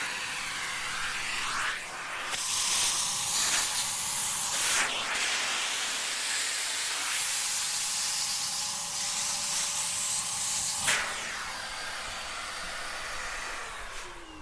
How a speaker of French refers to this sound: C'est un aspirateur à roues, et c'est pas un aspirateur plat, c'est plutôt une... je sais pas comment dire ça...